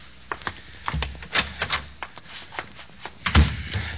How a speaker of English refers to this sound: I'll go in the closet here, and I'll close the door and turn on the light there.